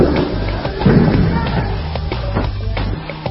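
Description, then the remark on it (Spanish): Several tear gas launchers fire in a loose, irregular series of dull thumping pops during clashes between students and police in Córdoba, over a steady low rumble and indistinct background voices. “Escuchan disparos de gases lacrimógenos.”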